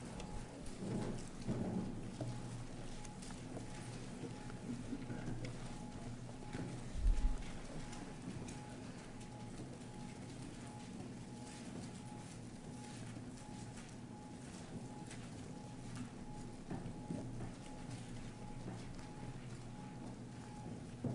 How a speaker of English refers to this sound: When you can't see, it's a wonderful to hear. And I'm hearing Bible pages turning all over the place. I love it.